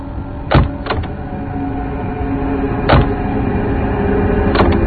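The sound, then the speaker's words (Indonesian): Several sharp clunks of car doors opening, spaced unevenly over a few seconds, as eight people get out of a car at a bathing place, over a steady low rumble like an idling vehicle. No one speaks. “Setelah sampai di tempat pemandian tadi, kami berdelapan turun dari mobil.”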